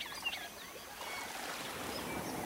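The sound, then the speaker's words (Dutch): Soft, scattered bird whistles and chirps drift over a steady wash of flowing water, fairly faint, with no voices. “Laat je meedrijven op de klanken, het fluiten van de vogels.”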